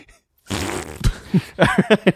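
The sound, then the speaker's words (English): A loud, raspy fart noise sputters for about half a second, followed by several short, voiced bursts that sound like a mouth imitating more farts in a choppy rhythm. “God, I love fart noises so much.”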